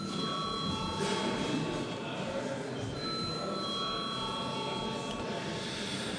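parliament voting bell

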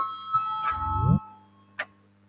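parliament voting bell signal

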